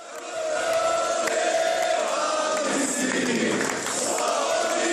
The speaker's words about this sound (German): Bei seiner Ankunft am Flughafen in Zagreb im Jahr 2014 wurde er von mehreren Kamerateams und hunderten jubelnden Anhängern im Terminal empfangen wie ein Held.